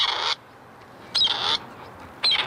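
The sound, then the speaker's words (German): A female grey partridge call is played from a phone in the dark to prompt territorial males to answer. It gives three loud, harsh, rasping bursts, each about a third of a second long, repeated at a steady interval with quiet gaps and no talking. “Denn genau in diesem Zeitfenster beginnen die Revierkämpfe der Hähne und sie reagieren auf den Ruf der Weibchen. Dieser Ruf wird jetzt vom Handy abgespielt.”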